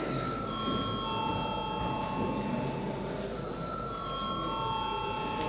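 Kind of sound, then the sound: signal or alarm, parliament voting bell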